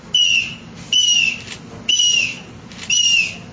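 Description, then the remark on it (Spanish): A shrill, piercing triple whistle blown in four short bursts, each a bright, slightly wavering cry with a harsh airy edge, imitating an eagle's call, fairly loud. “O también este silbato triple, que ya es el antecedente de las flautas triples, pero aquí para imitar el sonido del águila.”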